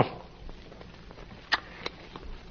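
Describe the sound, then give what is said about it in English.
A dog sniffs in quick, breathy puffs with soft shuffling movement, including a couple of sharper snuffles, all fairly quiet and with no voices. “I'm ready to leave any time now, only my dog.”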